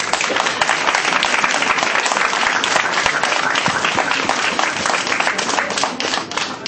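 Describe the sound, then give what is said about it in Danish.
A large audience claps steadily and loudly for the winner of the Årets Knold 2012 award, a dense wash of overlapping hand claps that holds for several seconds before easing slightly at the end. “Ja, en stor klapsal vil jeg igen komme.”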